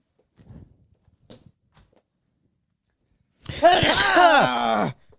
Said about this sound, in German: Oh, du musst ja schon wieder niesen.